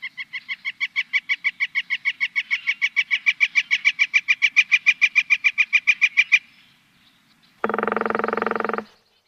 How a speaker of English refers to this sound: Well, those were the sounds of the northern flicker, a large and I think amazingly nattily colored woodpecker.